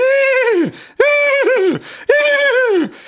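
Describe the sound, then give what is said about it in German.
A horse neighs three times in quick succession at the start of a song, each loud whinny starting high and wavering before sliding down in pitch, with brief gaps between and no voices. “Hier mit den Pferdegewieher vorweg.”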